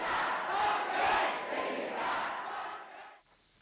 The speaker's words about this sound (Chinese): 那么我们继续来为您解说现在正在发生在香港的一些这个抗议集会的场面。